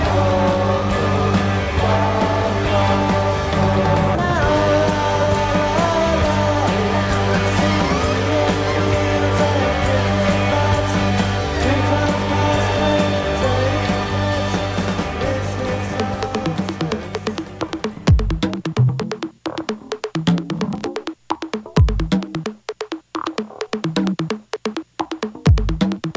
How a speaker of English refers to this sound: This concert is great.